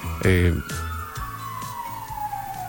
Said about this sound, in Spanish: No sé si ustedes logran escuchar el paso de un móvil de emergencia a esta hora.